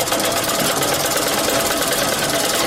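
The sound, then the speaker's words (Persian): A sewing machine stitching a sheepskin coat (posteen) on Labi Darya street near a crossroads in Ghazni city runs nonstop in a steady, rapid mechanical whir with a faint rhythmic clatter, holding an even loudness throughout with no voices. “د غزنی ښار پر خېڅلور لارې ته نږدې په لبی دریا کوڅه کې په پوسټین ګنډلو بوختای.”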